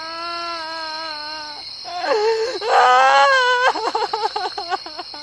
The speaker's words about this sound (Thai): คุณจะกดข้ามคลิปนี้ไปก็ได้เพราะนี่เป็นแค่คลิปจำลองเหตุการณ์เมื่อคุณได้ยินเสียงผู้หญิงถูกทำร้ายแต่ถ้ามันเป็นเหตุการณ์จริงล่ะคุณจะยังกดข้ามมันหรือเปล่า